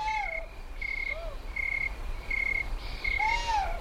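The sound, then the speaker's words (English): Night ambience in the desert with a steady pulsing insect trill, broken by a few high, wavering owl squeals and whistles from two owls fighting nearby in the darkness. No one speaks. “Nearby, what look like two owls fight in the darkness.”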